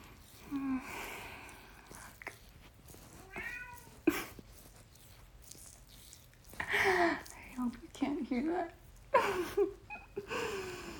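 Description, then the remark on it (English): A cat meows repeatedly, starting with a few soft, drawn-out mews and building to louder, more insistent cries with brief pauses between them. “Oh, there's my cat.”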